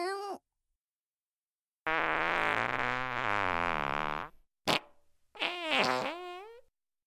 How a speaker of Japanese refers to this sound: もう失礼、くさいおならがこんにちは。どう、私のおならくっさいでしょ。ごめんなさい、下品なおならお漏らししてしまいました。